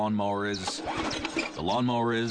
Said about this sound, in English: the lawnmower is not starting.